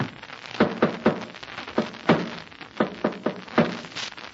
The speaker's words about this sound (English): Then listen to this. I'm going to tap against the wall using the Morse code. Listen.